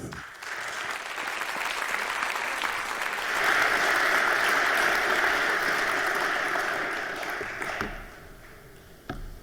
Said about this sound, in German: In diesem Sinne begrüßen wir mit einem warmen Applaus hier auf der Bühne